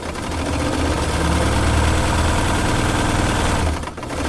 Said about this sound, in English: Landon Dix is cranking his slightly scuffed, grey industrial sewing machine to the max this afternoon. On top of the bobbin lies a coil of rope, which he rotates under the fast-paced needle.